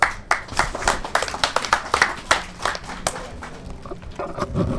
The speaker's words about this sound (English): They're amazing they put up these tents overnight, that we can be together. You know, I think it's fantastic, and I think we, despite all our discomforts, need to applaud what they've done